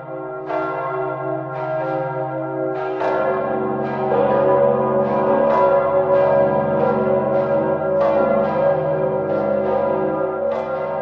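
A large church bell, the bell called Zikmund, tolls repeatedly in a steady, slow rhythm, each deep strike overlapping the long humming resonance of the last, loud and full with no voices.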